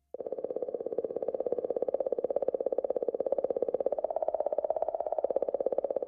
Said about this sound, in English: You're listening to the sound that a comet makes. That mysterious clicking comes from Comet 67P out there in the middle of the solar system with the Philae probe riding right on top.